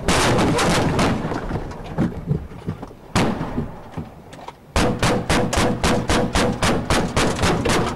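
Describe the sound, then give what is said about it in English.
Loud gunfire with no talking, from an ambush on US police who were chasing armed men and came upon their crashed vehicle: a dense volley of shots, one lone blast, then a steady rapid string of sharp, cracking shots fired in quick succession until the end. “Police have been ambushed while chasing armed men in the US.”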